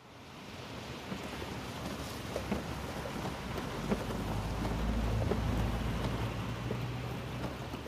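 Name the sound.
heavy pouring rain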